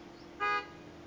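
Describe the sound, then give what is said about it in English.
A single short car horn honk, loud, lasting about a fifth of a second against a quiet background with no talking. “Just one honk?”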